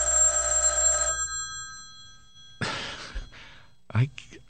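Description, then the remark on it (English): A telephone bell rings loudly in a single burst of about a second, then stops. After a pause come short rustling, clunking handling noises and a breathy sigh. “This phone is not supposed to be...”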